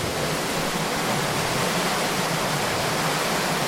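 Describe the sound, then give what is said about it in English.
Steady, loud rush of water pouring from a weir beneath a turning water wheel some 12 to 14 feet across, generating electricity at the medieval powerhouse of Dinham Mill on the River Teme in Ludlow; a dense unbroken hiss and roar with no voices and no distinct rhythm. “In front of me, I'm looking at a water wheel that's got to be 12, 14 foot across. It's huge. And you can just hear it turning.”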